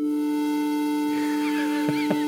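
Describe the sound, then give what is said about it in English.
Two synthesized tones held together as a sour, out-of-tune wolf fifth, steady and sustained throughout, with faint warbling sounds and a few soft taps creeping in toward the end. “And here's our wolf fifth.”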